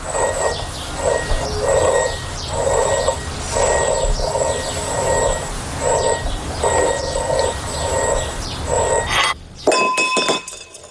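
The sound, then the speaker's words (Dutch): In a film scene, a passing train's steady rhythmic rumble with a thin high whine pulses for several seconds while glass jars on a table rattle faintly, then a vase reaches the table's edge and falls with a sharp crash and a burst of bright clinking glass. “En dan kijkt ze naar een ander glazen potje. En dat gaat ook bewegen.”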